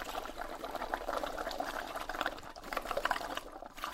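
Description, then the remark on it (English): Steady crackling and bubbling of hot oil as a meat-filled tortilla fries, a dense fizzing texture that continues without pause for the whole stretch, moderately loud with no voices. “Then you put it inside the oil and that is bubbling in the oven.”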